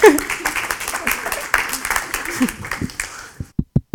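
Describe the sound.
An audience applauds in a dense, steady wash of clapping with some voices mixed in, then it thins out into a few separate sharp thumps at the end.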